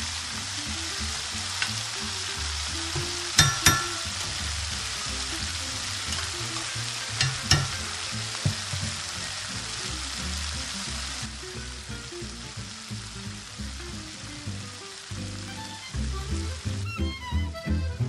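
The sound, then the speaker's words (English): Peppers sizzle and crackle steadily as they cook in a hot frying pan, a dense hiss with occasional sharper pops and a few stirring clatters, continuing throughout with no talking. “So I'm going to cook the peppers here for a while.”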